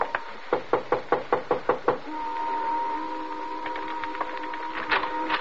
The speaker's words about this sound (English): 763 was a white single-frame house badly in need of repairs. The shades were drawn, but a dim light inside indicated someone was at home. Want to knock? Oh, sure.